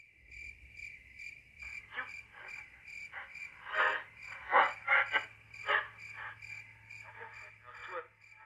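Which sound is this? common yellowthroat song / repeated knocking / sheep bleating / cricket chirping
cricket chirping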